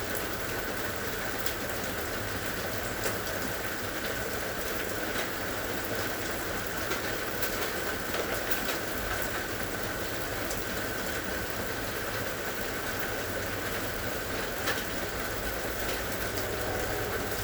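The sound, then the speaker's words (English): Steady rain falls continuously, a dense, even hiss of drops pattering on surfaces with occasional louder taps. No voices, just the constant wash of rainfall at a moderate level. “And yet, our focus is on the sound of the rain.”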